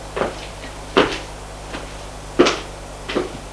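A woman opens a door to a salon in an apartment: a handful of sharp clicks and wooden knocks at irregular intervals, like a latch and handle working, over a faint steady low hum.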